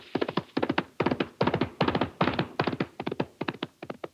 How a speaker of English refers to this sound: Wait, listen. That horse is coming.